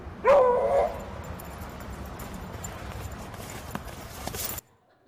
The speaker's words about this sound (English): All right. Cold day. Owner calls his dog. Dog on the ice.